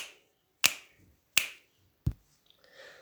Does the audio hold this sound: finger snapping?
yes